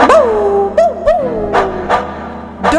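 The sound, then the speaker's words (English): A dog barks at a baby squirrel several times in quick, uneven bursts, some with a rising yelp-like pitch, over a steady background hum or music bed. No one speaks. “looked at the baby squirrel and barked.”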